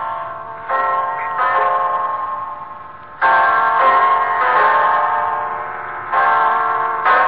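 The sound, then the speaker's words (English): A clock strikes ten o'clock with a series of loud, resonant chimes, each ringing tone swelling and lingering into the next at a slow, steady pace, with no voices. “It's 10 o'clock, Mrs. Reeves.”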